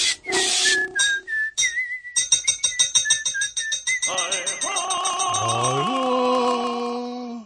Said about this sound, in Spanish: Y el tiempo pronto pasa, silbando al trabajar.